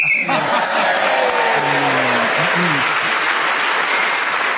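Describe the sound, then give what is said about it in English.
A loud, sustained round of audience applause for a contestant's final flourish at the end of a game, a dense crackle of many hands clapping at once, with some faint voices and whoops mixed in, continuing steadily throughout. “you were saving your last flourish for the end and got the big round of applause.”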